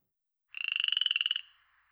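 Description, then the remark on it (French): A frog croaks in one rapid, pulsing trill lasting under a second, loud, then trails off into a faint fading tail. No one speaks. “Qui suis-je? La grenouille.”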